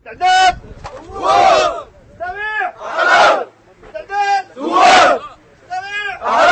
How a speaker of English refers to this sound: Back at the shooting range, the volunteers are drilling under the direction of a military officer.